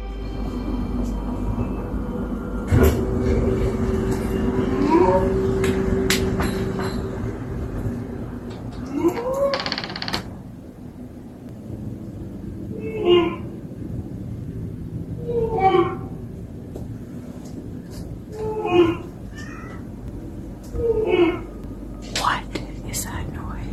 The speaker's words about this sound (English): Sound 1 was recorded in 2022 near Castlegar, British Columbia, Canada. You'll hear the witness start up her clothes dryer, just as the whooping sounds begin outside of her home.